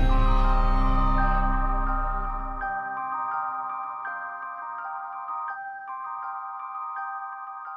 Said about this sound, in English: It was weird when she made that her ringtone.